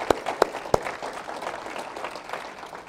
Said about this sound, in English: Give him a nice hand clap.